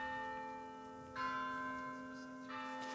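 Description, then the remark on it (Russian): Latrun monastery church bells, rung every 15 minutes, ring with long, humming tones, struck afresh twice so new peals swell over the lingering resonance. They sound fairly soft, with no voices. “Каждые 15 минут в монастыре Латрун бьют колокола.”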